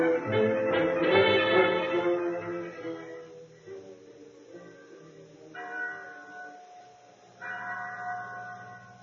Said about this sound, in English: There was a bell in the chapel at San Pedro. When it rang, its clear tones carried over the plains for miles in every direction and sounded a message for both Indians and white people.